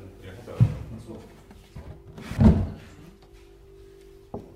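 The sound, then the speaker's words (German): A heavy wooden coffin lid is set down onto a coffin with a person lying inside, in two dull, resonant thuds a couple of seconds apart, followed by a faint knock, over a low steady hum. “Manche stimmen sogar zu, dass der Deckel draufgelegt wird.”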